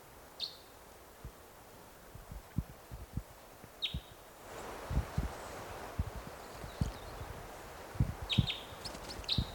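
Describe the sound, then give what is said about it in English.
Short, sharp crossbill chittering calls in high-pitched bursts, roughly three separate outbursts, over a steady background hiss and a scatter of low, soft knocks and thumps. “Chitter there.”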